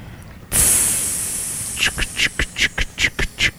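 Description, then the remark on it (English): A voice imitates a steam train: a sudden long, loud hiss, then a quickening run of about eight breathy chuff-chuff puffs, clear with no other talk. “I think I have enough steam for one. Some steam.”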